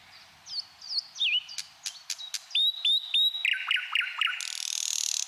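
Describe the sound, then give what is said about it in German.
A bird sings a rapid, varied song of whistled notes, sharp clicks and repeated trills, clear, ending in a harsh buzzing rattle, with no voices present. “Vor allem aber macht ihn der Vogelgesang natürlich auch einfach glücklich.”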